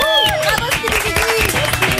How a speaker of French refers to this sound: mesdames et messieurs, veuillez applaudir.